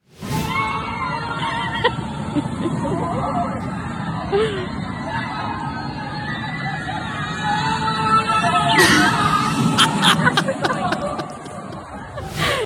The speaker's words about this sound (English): but I did want to cut the audio because you can hear me screaming pretty prominently. Here is some of the audio of me on the steepest roller coaster in the world.